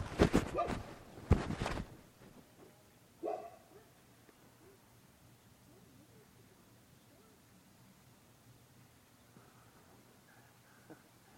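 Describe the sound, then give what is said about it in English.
A dog barks loudly several times in quick succession at the start, followed by a single shorter bark, then quiet with faint background noise. “Great guard dog.”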